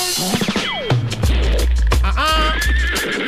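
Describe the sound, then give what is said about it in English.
A horse whinnies loudly, its voice sliding down in pitch, then rising again into a second shrill neigh over a low rumbling background, with no one speaking. “What in the world is that? The horse style?”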